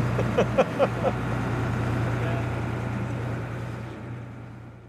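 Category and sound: vehicle, boat engine running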